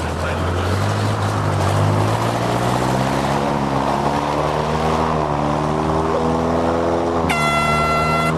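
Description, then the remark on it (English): The 5.5-litre engine of the paramedics' boat Rapid Response roars loudly as it blasts her upriver across the start line of a race, its droning pitch climbing steadily as it revs and pushes ahead, then shifting higher near the end with a sharper, brassier tone. “Rapid Response's 5.5-litre engine blasts her upriver.”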